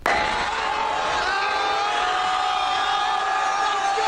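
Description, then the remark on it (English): A large crowd of Philly fans roars and cheers in a dense, unbroken wall of shouting and whooping that stays loud and steady for a few seconds as the awning at the front of the Ritz-Carlton, which they had climbed on top of, collapses, with no single crash standing out. “Well, a bunch of Philly fans all climbed up on top of the awning at the front of the Ritz-Carlton and it collapsed.”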